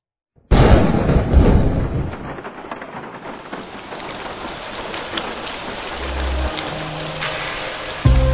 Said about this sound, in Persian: بازم بارون زده نم نم